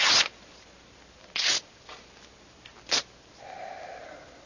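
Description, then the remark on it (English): Letter paper burning: a few sharp, breathy whooshes and rustles flare up at irregular intervals, then settle into a softer, steady hiss of flame. No one speaks. “Burns nicely, doesn't it? A good letter paper.”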